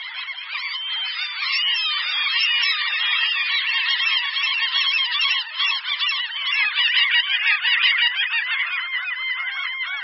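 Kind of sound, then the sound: bird, common gull calls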